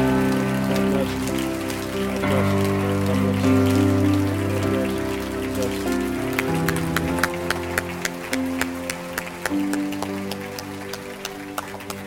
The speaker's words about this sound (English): Let's give him a hand. Give him a hand.